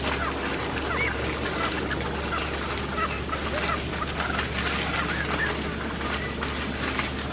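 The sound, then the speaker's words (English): Soft, scattered peeping and low purring calls from a group of pheasants working over a standing corn food plot, fairly faint and continuous over a steady low hum and background hiss, with no voices. “At first, I thought I was hearing turkeys, and then I realized it was pheasants.”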